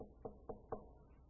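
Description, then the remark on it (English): Three evenly spaced knocks on a wooden door, firm but moderately soft, heard alone with a low background hum. “But I'm not going to barge in. I'm going to knock.”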